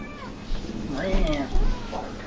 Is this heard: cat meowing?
yes